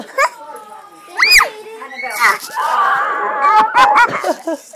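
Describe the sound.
A dog whimpers and yips in high, wavering whines, with one loud rising squeal early on, then a busier stretch of excited yelps mixed with voices.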